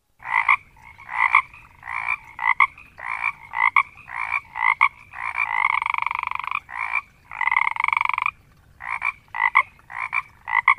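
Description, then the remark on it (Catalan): Frogs croak in quick, rhythmic bursts, fairly loud, with a longer unbroken stretch of croaking midway before the short pulses return. No voices. “he descobert que les granotes omplen la panxa per respirar i a l'hivern les granotes s'adormen i no canten.”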